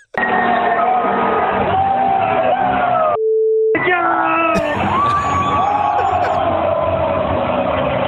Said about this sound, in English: I mean, that's the limited amount we can play for you without it just being continuous beeps.